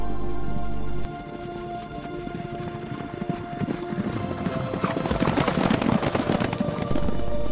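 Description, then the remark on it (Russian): Hooves of several horses gallop in a dense, rapid patter that grows steadily louder and closer, approaching from behind, starting after a brief low drone and filling the scene with no voices. “Вдруг слышит лошадей поспешный бег. Все ближе, ближе где-то за собою.”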